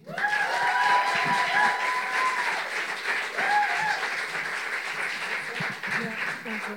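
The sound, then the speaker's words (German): A crowd at the first U20 Poetry Slam in the Luise applauds steadily for several seconds, welcoming the first poet to the microphone, dense clapping with a few whoops and cheering voices rising above it before it slowly thins out. “Klatscht unsere allererste Poetin ans Mikrofon.”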